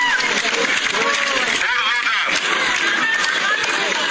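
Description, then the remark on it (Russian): A large crowd on a theatre square in South Ossetia applauds steadily as the election winner walks onto the stage, a dense, loud wash of clapping that holds for the whole stretch, with shouts and cheering voices rising through it. “Под аплодисменты вышел на сцену театральной площади уже сам победитель.”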